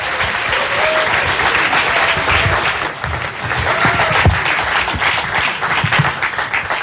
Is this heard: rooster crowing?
no